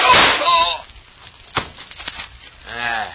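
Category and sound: impact, gunshot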